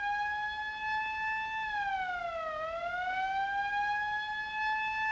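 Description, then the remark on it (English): A police siren wails steadily on its own, its pitch sagging down and climbing back up once midway, with no voices over it. “That police siren.”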